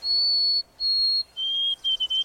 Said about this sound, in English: In the east, you're more likely to hear the sweet, wavering song of the white-throated sparrow. It seems to say, "Oh, sweet Canada, Canada."